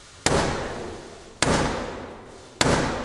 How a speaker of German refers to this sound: Dann nimmt Blackrod ihren schwarzen Stock, den sie hat, und klopft damit dreimal an die Tür.